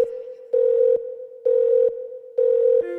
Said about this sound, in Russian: Снова звонок, бля, я занят.